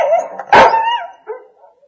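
A dog gives one sharp, loud bark, then a drawn-out whining yelp trails off and a shorter yip follows, with no voices.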